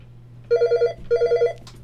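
A telephone rings twice in quick succession at a radio station during its fund drive, each ring a rapid warbling trill of about half a second, clear over a faint steady hum, with no one talking.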